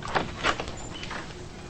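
door being unlocked

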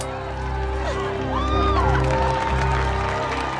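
audience cheering and applauding

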